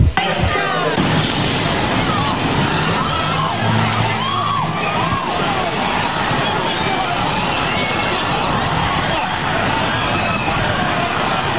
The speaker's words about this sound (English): we have new tape of the moment of the explosion. Take a look here and let's listen in.